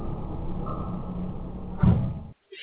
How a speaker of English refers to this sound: Who's opening the floor door?